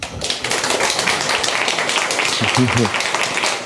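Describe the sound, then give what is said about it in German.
An audience breaks into steady applause welcoming a speaker to a talk about gaming on Linux, dense overlapping claps sustained throughout at a fairly loud, even level, with a brief murmur of voices underneath near the end. “Einen am großen Applaus, bitte.”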